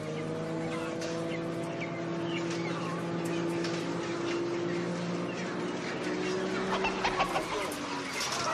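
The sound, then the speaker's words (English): Many chickens cluck and murmur in a crowded chicken house, with a steady low mechanical hum droning continuously underneath the scattered, overlapping calls. “When it's dark inside the houses, the chickens lay down.”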